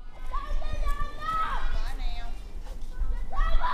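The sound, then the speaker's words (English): Kids play on playground equipment such as jungle gyms and monkey bars, their high-pitched shouts and calls overlapping over a steady low outdoor rumble, with occasional thumps and footfalls. “The sound of kids playing on jungle gyms and monkey bars is not as common as it used to be in public schools.”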